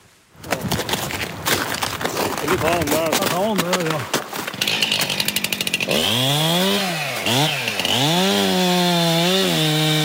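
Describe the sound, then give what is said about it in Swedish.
A chainsaw runs loud for several seconds, its engine repeatedly revving up and dropping back as it cuts through a wind-felled pine lying in snow with its roots in the air. It saws at the base by the root to free the trunk from the root plate, during storm clean-up in forest at Rickleå outside Robertsfors, Sweden. “Med van hand kapar Per Gustafsson tallen som ligger i snön med rötterna i vädret.”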